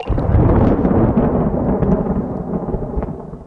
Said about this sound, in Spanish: Hay una máquina que es de hacer lluvia. fue el invento de un habitante de Puerto Rico. Era una canilla gigante que se pegaba a las nubes. Se abría y caía la lluvia.